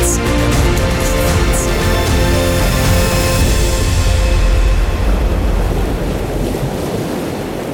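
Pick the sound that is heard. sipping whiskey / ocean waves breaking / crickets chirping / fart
ocean waves breaking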